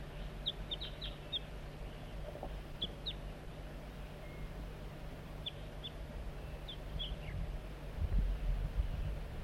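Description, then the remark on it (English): Soft, brief high-pitched flight calls from bird 4-3, coaxing a juvenile in, come in scattered pairs and small clusters throughout, faint over a steady low rumble that swells louder near the end. “Bird 4-3 coaxing the juvenile in with soft flight call.”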